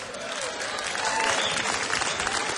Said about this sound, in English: Hey, y'all, big round of applause for Peter Gall for having us back. Peter, we really appreciate it, my friend. Let's give him a hand.